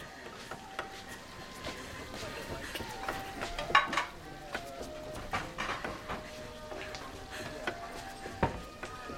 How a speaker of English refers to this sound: In a Chinese restaurant, the chef is chopping food as Sydney enters